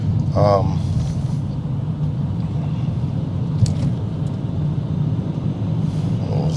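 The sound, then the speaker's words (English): A steady, low engine-and-road rumble fills the whole stretch, from inside a car driving in traffic in Omaha, with a brief higher tonal sound near the start and a faint click later. “Traffic is getting crazy here.”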